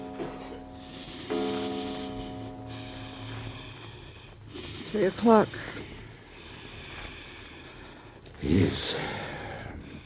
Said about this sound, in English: Listen to the way he's breathing. It's getting worse. He's getting worse, isn't he, Doctor? Listen to it.